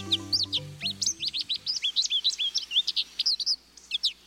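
A rapid, bouncy string of high, clear twittering calls from a recently molted male American goldfinch in spring, now vivid yellow with new feathers, chattering continuously over a faint low musical hum that fades after the first moments.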